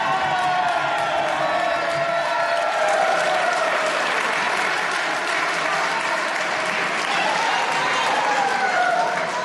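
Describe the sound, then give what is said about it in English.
A crowd, including Supreme Court justices, tribal nation leaders and constitutional officers, applauds steadily at the opening of a speech after being asked to start clapping again, a dense, loud wash of clapping that holds for about ten seconds, with faint cheers and whoops mixed into it. “How about if we start over? Start clapping again.”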